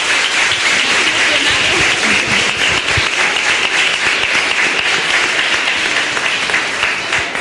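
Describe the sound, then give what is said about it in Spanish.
Loud, sustained audience applause filling the whole stretch with dense, steady clapping from many hands, holding a constant level without pauses. “Aplauso fortísimo, por favor.”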